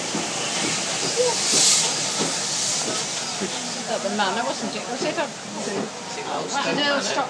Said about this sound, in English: What's that? Another train?